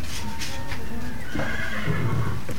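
A horse whinnies loudly, a long wavering neigh that rises and falls, with faint hoof clops and stable noise underneath.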